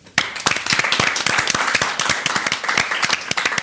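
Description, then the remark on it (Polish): Steady, dense applause from an audience in a studio, acknowledging the sound production work on a film, many hands clapping at once with crisp, irregular claps that stay loud throughout without any voices. “również wielkie brawa.”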